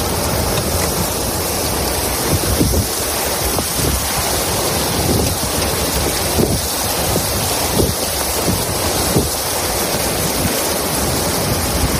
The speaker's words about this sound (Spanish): Bueno, así sonaba el torrente de agua que, como escuchas, arrastró coches, inundó muchas calles, garajes y hasta una parroquia de este municipio, Ciempozuelos.